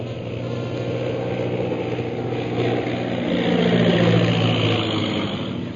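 A steady, droning propeller-plane engine with a low harmonic hum from a low-flying plane heading straight toward the onlookers, swelling louder around the middle and holding strong before easing slightly at the end. No voices are heard.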